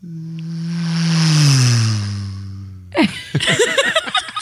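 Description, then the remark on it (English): A voice imitates a car passing on a highway: a steady hum that swells louder and slides down in pitch, lasting about three seconds, followed by a burst of laughter. “You want to hear the sound of a car driving by you on the highway?”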